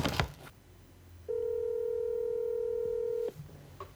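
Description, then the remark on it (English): A single steady telephone keypad tone from a regular phone placing a call sounds for about two seconds, clear and fairly loud against quiet background, preceded by a brief clunk and with no talking. “Hey, man, I just called you on a regular phone because I think it's more reliable.”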